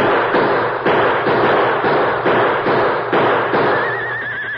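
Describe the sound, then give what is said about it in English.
A burst of gunfire as several men in ambush shoot at the Lone Ranger on a white horse until their guns are empty: around nine loud, sharp shots crack in quick, uneven succession over a dense noisy wash, with a thin wavering high tone rising near the end. “When I give the signal, start shooting, you hear? And don't stop until your guns are empty.”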